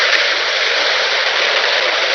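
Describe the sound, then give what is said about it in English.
A steady, unbroken hiss of white noise from a radio not tuned to any station fills the whole clip at an even loudness, broad and airy with no tones, voices or pauses. “That's simply a combination of all noises coming out of a radio, right? When it's not tuned to anything specific.”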